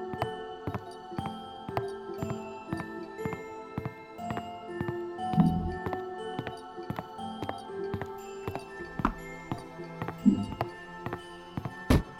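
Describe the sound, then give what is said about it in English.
Steady footsteps walk along at an even pace, each step a crisp tap, with sustained tonal hum or music running underneath throughout. “Walking.”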